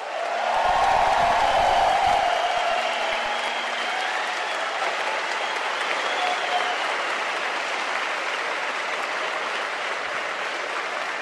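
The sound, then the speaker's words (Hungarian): A crowd applauds steadily for about eleven seconds for students demonstrating at regional education centres, a dense, even wash of clapping that starts strong and holds at a loud level with no talking over it. “És külön köszöntöm, és a végén kérek majd egy nagy tapsot azoknak a hallgatóknak, akik vidéki oktatási központokban jelenleg is demonstrálnak a kialakult helyzet miatt.”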